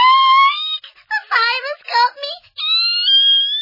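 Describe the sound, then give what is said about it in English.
A loud, piercing scream rings out from an upstairs corridor, holding a high sustained pitch, breaking into wavering, sobbing cries midway, then rising again into a long shrill wail. “Any further debate was cut short by a piercing scream from the upstairs corridor.”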